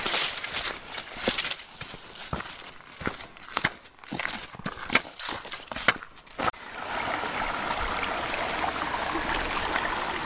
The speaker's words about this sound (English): another one of the many bubbling brooks along this trail. There's just something so peaceful and calm about listening to running water.